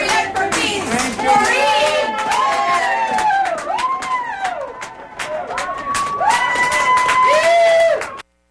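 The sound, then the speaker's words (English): A large crowd outdoors cheers and shouts as defendants are led off into police cars, chanting "Patriots for Peace", many voices rising and falling together with scattered clapping, loud and continuous for about eight seconds before cutting off abruptly. “You're hearing them being led off into the police cars now and the crowd reaction outside.”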